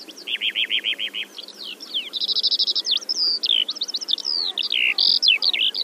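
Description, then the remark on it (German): A lark sings a long, unbroken stream of high, rapid chirps, buzzy trills and repeated whistled notes, fairly loud and alone over a faint background murmur. “Die Lerchen referieren über Schläge. Wenn sie losfliegen, rufen sie angeblich, Schlag, Herr, schlag, ich hab einen Stab.”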